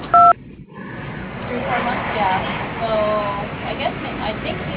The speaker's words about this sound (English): I'm either on the phone or away from my desk. If you'd like to leave a message, please do so after the tone. Thank you.